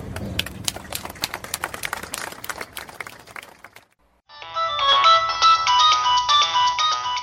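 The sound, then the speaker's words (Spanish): A burst of rapid clicking and tapping stops briefly, then a loud mobile phone ringtone plays a bright, warbling electronic melody for about three seconds, with no one speaking. “Si quieres que tu celular suene así,”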